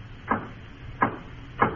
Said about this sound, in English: Oh, come on, Dylan. All you have to do is lift your arm and knock on the door.